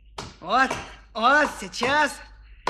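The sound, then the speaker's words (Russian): A voice imitates hewing a wooden wedge with three drawn-out, sing-song vocal strokes that rise and fall in pitch, followed by a short sharp click at the end. “Ну, вот только клин обтешу.”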